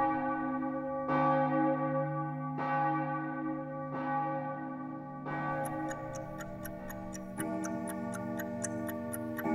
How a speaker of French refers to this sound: Une imposante horloge sonnait 10h tapante lorsque je suis rentré dans le bureau du directeur de l'internat.